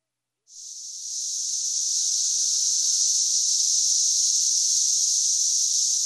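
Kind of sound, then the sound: insect, periodical cicadas chorus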